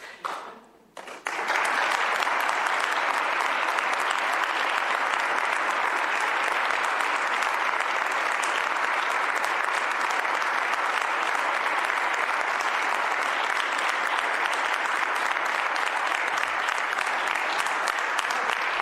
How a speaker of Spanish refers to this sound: Bueno, pues ahí están todos aplaudiendo a Juan Manuel Corchado, también los integrantes de su equipo que están a su espalda.